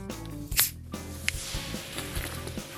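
A sharp hiss bursts out as a bottle of sparkling water is opened for pancake batter, followed by a softer, steady fizzing that trails on, with no talking.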